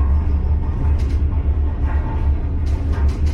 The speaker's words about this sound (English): This is a cable car system with 11 different lines. It's the only reasonable way to get between the two cities.